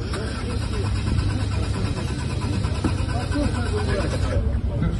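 The engine of a Lada Aura prototype car presented at a forum cranks steadily, the starter churning in a fast rhythmic grind for several seconds without catching after its protection system triggered, fairly loud, with voices murmuring in the background.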